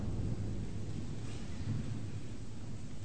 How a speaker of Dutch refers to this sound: Dan hoef je voor onweer ook niet bang te zijn.